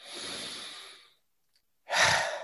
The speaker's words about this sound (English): Well, I invite you to perhaps close your eyes where you are and take a few nice deep breaths with me.